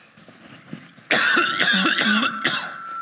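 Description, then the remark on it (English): After a second of near silence, someone breaks into a loud fit of coughing just after a prayer, several harsh bursts running together until the end. “I haven't coughed all morning. And during that prayer, I started to think, oh, I've got a bit of a cough coming.”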